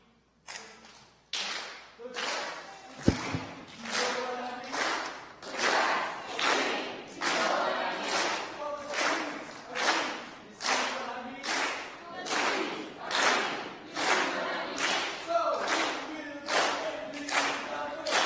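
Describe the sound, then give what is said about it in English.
A group of kids on the green team performs a loud, rhythmic cheer, chanting together in steady beats with claps or stomps on each pulse, keeping the same driving pattern throughout. “All right, in that case, green team, would you come up and give us another cheer?”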